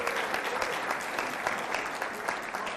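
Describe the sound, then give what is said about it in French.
Steady applause from an audience, a dense wash of many hands clapping at an even level with no pauses or voices standing out. “Et on les applaudit!”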